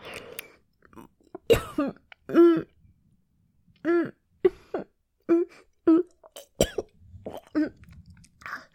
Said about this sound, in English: There are tears in my eyes, and I'm coughing hard.